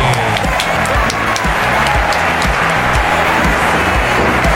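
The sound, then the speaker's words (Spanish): Steady, dense applause from many hands, a continuous bright crackle of claps that stays loud and even for a few seconds with no pauses. “Mandamos un aplauso.”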